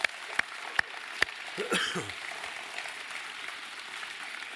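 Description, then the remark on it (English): An audience claps steadily in a dense, even patter for the kids at a church service, with a few sharper claps standing out early and a brief voice calling out midway through. “Hey, give the kids a big round of applause.”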